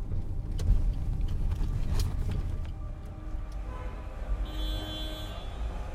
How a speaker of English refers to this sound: As with anywhere in India, the thing you notice about Vadnagar is the noise. People shouting and cars honking at cows that block their way.